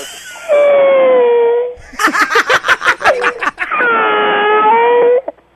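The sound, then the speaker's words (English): A young boy wails loudly in pain after slamming his hand in a door: a long, drawn-out cry, then a burst of choppy, rhythmic sobs, then another sustained, quavering wail. “He's slammed his hand in the door.”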